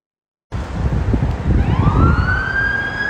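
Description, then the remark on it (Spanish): A fire truck siren, sounded at full as the truck turns left off an avenue, rises in a loud, sweeping wail over rumbling street traffic, growing stronger as it passes. “El camión de bomberos, cada vez que quiere doblar a la izquierda de una avenida, aprende la sirena todo lo que da.”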